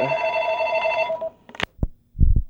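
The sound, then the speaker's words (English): A telephone rings with an incoming call from Brazil: the bell rings steadily for just over a second and then cuts off, followed by a few sharp clicks and low thumps, like a receiver being handled. “Sorry, we got a little cut off there by a phone call.”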